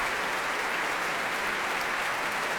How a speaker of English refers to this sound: we've just heard a performance given by Yulia Fischer with the London Philharmonic Orchestra, conducted by Vladimir Yurovsky, who I have to say led the applause for Yulia Fischer's astonishing performance at the end there.